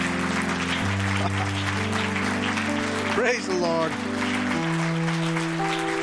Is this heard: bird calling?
no